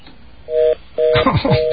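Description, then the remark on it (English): Three short electronic keypad beeps sound in steady succession as a phone number is dialed, each tone holding briefly before the next, with someone talking over the later beeps. “And now I'm going to start dialing the number and wait for the static to come back.”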